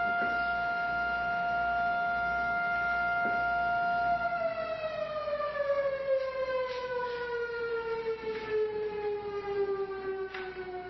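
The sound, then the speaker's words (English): A loud civil defense siren, tested every day at noon, wails steadily, then its pitch slowly slides downward as it winds down, sustained throughout with no talking. “They test the siren every day at noon, so.”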